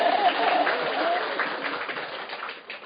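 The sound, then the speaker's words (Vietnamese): A crowd bursts into steady applause, a dense wash of many hands clapping at once that holds for a few seconds and then thins slightly toward the end, with faint voices mixed in. “Hay vậy ta, giỏi, cho tràng pháo tay.”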